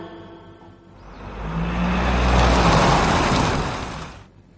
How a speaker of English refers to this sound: V for van. V for van.